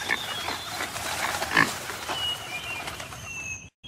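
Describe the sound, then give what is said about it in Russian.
A pig named Borka grunts and snuffles continuously, running around happily, a busy, contented-sounding stream of low grunts, with faint bird calls chirping in the background and no talking. “Вокруг нас бегал и радостно хрюкал Борька.”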